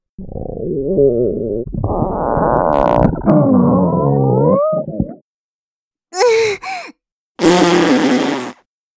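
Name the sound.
fart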